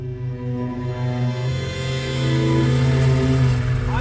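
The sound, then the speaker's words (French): A heavy truck engine idles and then rises in pitch as it revs, a steady low droning hum with strong harmonics that continues throughout, fairly loud with no voices, at the border with Northern Ireland as British soldiers order the passengers off the truck. “À la frontière avec l'Irlande du Nord, les Britanniques nous ont fait descendre du camion. Coupez le moteur.”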